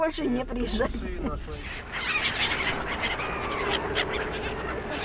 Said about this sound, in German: An der Promenade von Kertsch füttern Eltern mit ihren Kindern Möwen.